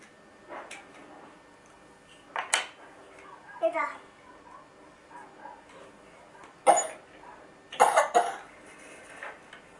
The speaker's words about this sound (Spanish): ¿Qué tos tienes? ¿Estás malito?